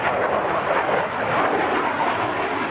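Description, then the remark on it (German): A loud, steady jet roar fills the scene, a broad rushing engine noise from an aircraft taking off at the nearby military airfield of Sion in Valais, Switzerland, sustained without pause and with no voices. “Ein Flugzeug startet im nahegelegenen Militärflugplatz von Sitten.”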